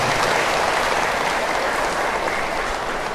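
big round of applause

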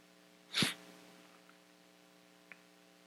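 sneeze

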